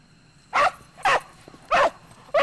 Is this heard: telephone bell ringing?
no